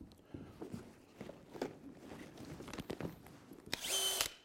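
Scattered knocks and shuffling footsteps give way to a short, loud burst of a power tool whirring at a high, steady pitch for about half a second near the end.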